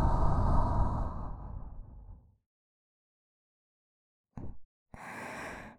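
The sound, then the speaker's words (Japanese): A long, warm ASMR breath blown close to the ear fades out over two seconds, followed by silence, then a brief puff and another exhale. No talking. “息の届く距離は短いですが、その分お耳が包み込まれているような心地よさがあって、脊髄の芯まで響く吐息全面。”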